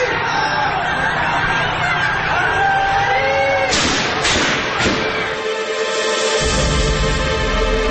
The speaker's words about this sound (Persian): ناگهان صدای تیر می آید